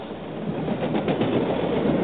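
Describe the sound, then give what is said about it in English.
A steady, rushing rumble of a train grows gradually louder over about two seconds, with no voices over it, as if it is drawing closer. “There's a train coming. Get out of the way.”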